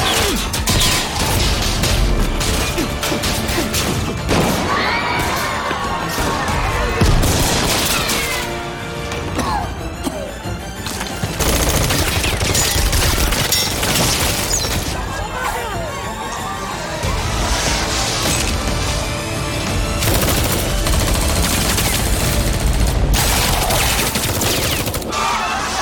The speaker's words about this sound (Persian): خب ماتیاس حمله کن. نزدیک در شلیک کنی.